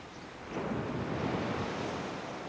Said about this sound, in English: Picture yourself lying in the sand on a hot summer day, watching the waves from a southern Delaware beach. A cool breeze coming off the ocean cools you down while you're working on your tan.